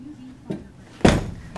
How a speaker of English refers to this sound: Don't close that door.